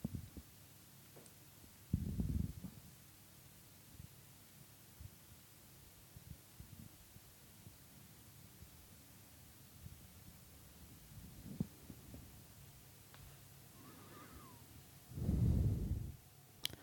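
heartbeat

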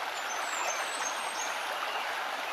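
flowing brook water

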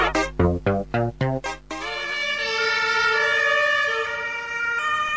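emergency vehicle siren

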